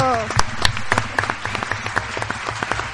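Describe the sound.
A crowd applauds with dense, sustained clapping, sharp individual claps popping through a steady wash of hands, with a bit of voice underneath at the start.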